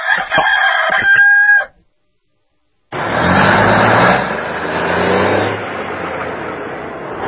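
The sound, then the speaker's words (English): A rooster crows once, loud, for about a second and a half. After a short silence, a steady, broad rumble like a passing or running vehicle fills the rest. “We're going to go rooster cruising.”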